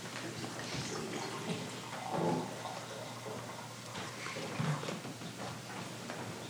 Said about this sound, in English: We too pour our wine.